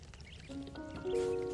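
Water pours steadily into a container to give ducklings more water, the splashing rising in pitch as it fills, with a faint bubbling trickle underneath and no voices.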